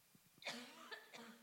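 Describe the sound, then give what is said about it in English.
A few short coughs in quick succession, a sharp burst followed by two lighter ones, moderately loud, from someone in the audience during a church sermon. “I don't know who coughed, but I feel like it was contagious just now.”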